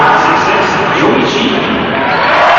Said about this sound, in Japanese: そしてそれに負けずと大きな声援が沸き起こりました。